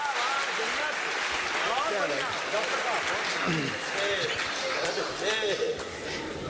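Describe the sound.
Steady, dense applause from an audience, a continuous wash of many hands clapping at fairly loud level, with indistinct voices and cheering mixed in throughout.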